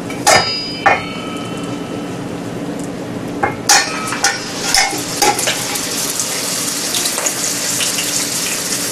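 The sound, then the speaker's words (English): Rice paper-wrapped food fries in hot oil until golden, with a steady, crackling hiss that grows fuller partway through, punctuated by several sharp metallic clinks and taps of utensils. No one speaks. “There is something to stop the oil you put in front of your face.”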